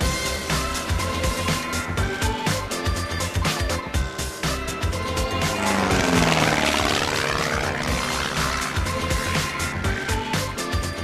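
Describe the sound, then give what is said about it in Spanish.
A small propeller plane drones steadily, its buzzing engine swelling loudest as it passes overhead midway, then its pitch sliding downward as it moves away. No voices accompany it. “qué rica la avioneta, Jorge Álamo.”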